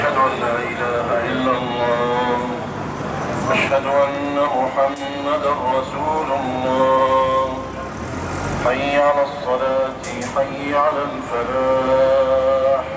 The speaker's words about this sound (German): Jetzt fließt der Verkehr wieder. Die Leute fahren schnell nach Hause.